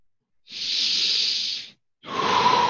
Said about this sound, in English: Everyone take a deep breath and hold it for a moment. And release when you're ready.